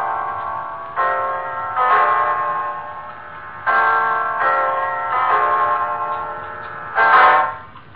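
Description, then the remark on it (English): A clock chimes the hour at nine o'clock with about six resonant, bell-like strikes at a slow, slightly uneven pace, each tone ringing on into the next. No one speaks. “It's 9 o'clock, Mrs. Reeves.”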